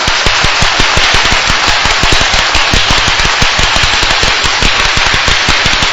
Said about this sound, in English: Once again, give a loud clap.